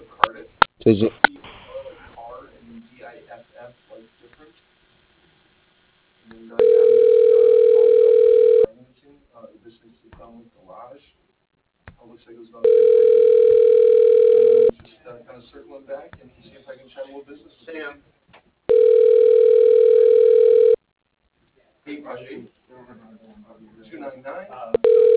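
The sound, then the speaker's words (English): A telephone line tone sounds three times, each a steady two-second hum spaced evenly apart, a ringback as a call is transferred to voicemail, with muffled voices talking in the gaps between. “Hang on a second, I'm going to transition to his voicemail.”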